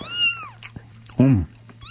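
A kitten meows several times: a thin, high, falling mew, then a louder, throatier cry, and another high mew starting at the end, over a faint steady hum.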